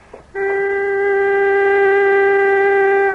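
An emergency foghorn, blown into with all of a woman's strength as a warning to boats near rocks, blares in one long, steady, unbroken blast, loud and reedy with a strong low-mid tone and stacked harmonics, starting abruptly after a brief moment of quiet.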